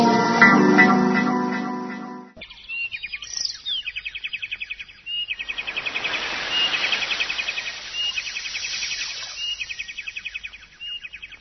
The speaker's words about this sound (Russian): Ах, какой прибой, какие птички!